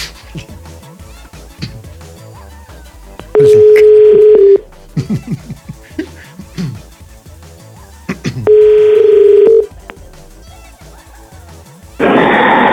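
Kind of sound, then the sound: signal or alarm, telephone number being dialed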